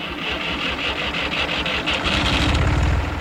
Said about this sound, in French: Attachez vos ceintures, on démarre le tracteur.